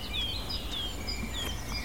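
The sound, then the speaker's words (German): Clear, whistled blackcap notes mix with a few hard, clicking garden warbler alarm calls, heard faintly over a low steady rumble, with no one talking. “Hellen Töne der Mönchskassmücke. Die harten Warnrufe der Grasmücke.”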